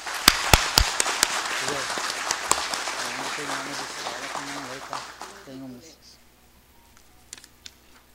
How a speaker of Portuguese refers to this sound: Peço uma salva de palmas ao homenageado senhor Armindo Silvestre.